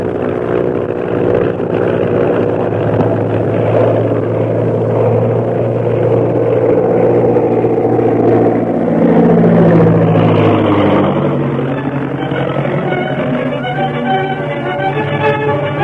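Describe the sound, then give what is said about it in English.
A loud, steady airplane engine drones without a break as the plane climbs, its humming pitch sweeping and shifting partway through before settling into a higher whine. No voices are heard. “I'm going to climb above the purple triangle plane without the pilot seeing us.”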